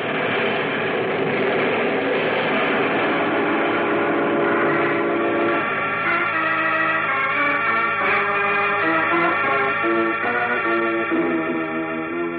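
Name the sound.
train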